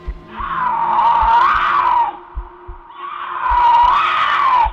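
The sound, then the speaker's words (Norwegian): A man screams like a puma: two long, shrill screams, each about two seconds, loud with a wavering pitch, separated by a short pause, while low, heartbeat-like thumps pulse steadily underneath. “Hun sa, «Det var ikke en katt», men en mann som skrek som en puma igjen og igjen. Han skrek høyt, skremmende høyt.”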